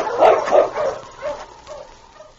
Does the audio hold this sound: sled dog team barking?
yes